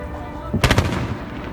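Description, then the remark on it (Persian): A quick volley of three or four sharp, heavy anti-aircraft gunshots cracks out in rapid succession, loud and booming, over a steady low rumble that continues after the burst. Aircraft noise, explosions and the anti-aircraft fire shake the whole building. “در همان حین صدای وحشتناک هواپیما، انفجار و شلیک گلوله های ضد هوایی تمام ساختمان را به لرزه درآورده بود.”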